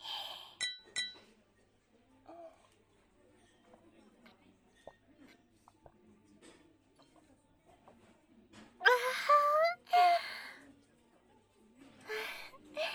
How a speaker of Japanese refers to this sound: てなわけで、輝かしい君の大学デビューを祈って、もう一度乾杯。